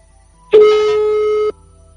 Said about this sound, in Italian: Ora io ho già composto il numero di telefono e vediamo se riusciamo a parlare